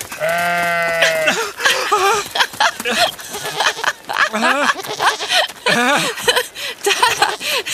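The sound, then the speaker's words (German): A billy goat with long horns and a collar lets out a loud, drawn-out bleat, followed by a run of shorter, wavering bleats and cries that keep going without a break. “Das Monster, das ist ein Ziegenbock.”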